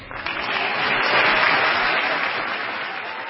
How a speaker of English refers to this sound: I was the third State of the Union address, the Obama White House on display. There were applause moments throughout for a couple of different things that he said.